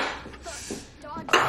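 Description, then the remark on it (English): Dishes clatter and clink as they're gathered up from a table after dinner, ending in a sharper rattle, with faint voices murmuring in the background. “clear dishes when the kids show up with a beach ball.”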